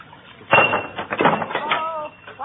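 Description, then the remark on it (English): A couple of glass bottles tumble off a medicine shelf in a sudden clattering crash, followed by a quick run of knocks and clinks that settles into a brief glassy ringing. “I knocked a couple of bottles off the medicine shelf.”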